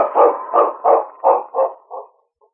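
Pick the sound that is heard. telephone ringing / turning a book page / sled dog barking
sled dog barking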